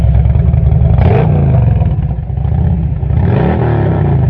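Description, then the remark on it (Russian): A loud motorcycle engine drones steadily as the motorcycle arrives, then its pitch climbs in a quick rev toward the end, with some rattling clatter mixed in and no voices. “И там они спасли дюймовочку, позвонили по телефону мальчику с пальчику, и приехал мальчик с пальчик на мотоцикле.”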